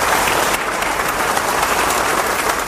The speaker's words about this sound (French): Après la cérémonie religieuse, le cercueil quitte la salle de sport du club San Martín sous les applaudissements.